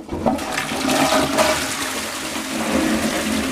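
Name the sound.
toilet flushing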